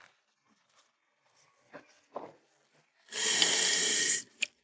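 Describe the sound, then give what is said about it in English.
Fresh milk gushes into the tank of a milk truck in a loud, steady rush for about a second, preceded by a few soft knocks and clicks and followed by a sharp tap. “Some fresh, healthy milk goes into the tank.”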